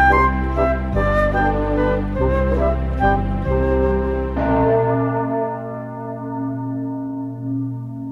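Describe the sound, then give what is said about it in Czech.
Large church bells ring out loudly with deep, overlapping tones, several heavy strikes in the first few seconds, then a long resonant hum lingers and slowly decays. “Kalendář More Gregoriano rudl prvou nedělí červnovou a zněly veliké zvony.”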